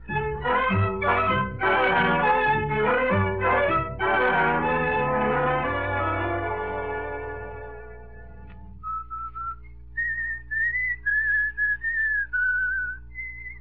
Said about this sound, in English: Do you have to whistle that tune all the time?